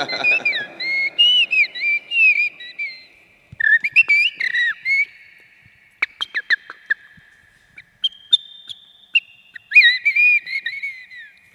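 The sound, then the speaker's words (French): A person whistles an imitation of a herring gull's call: bursts of high, slurred whistled notes that rise and fall, broken by short clicks and pauses, with no talking. “C'était le goéland argenté, là.”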